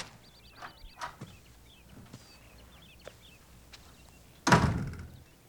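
A few sharp, uneven knocks on a door by Magnum, followed moments later by a louder, heavier door thud, with faint birdsong chirping in the background and no voices.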